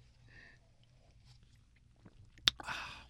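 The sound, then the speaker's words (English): Someone gulps down a shot of raw egg yolk with vermouth: a sharp click, then a short wet swallowing burst over a quiet background hum, with no talking. “An egg yolk raw. With vermouth. Okay, so it's a shot. And I don't sip this, right?”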